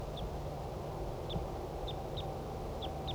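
A wild male bird calls about 10 meters away with short, high chirps repeated about six times at uneven intervals, thin and fairly faint over a steady low rumble of wind-like background noise.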